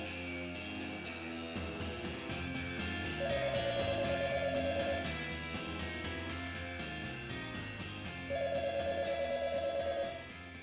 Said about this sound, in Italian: Afferrò la cornetta e si sentì risollevato quando gli squilli tacquero.